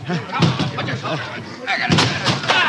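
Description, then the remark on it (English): A door at the Goldman Tavern is forced in during the search for Booth, with heavy, loud bangs and crashes, two or three forceful impacts, while voices shout over the commotion. “Who is it? Break in the door!”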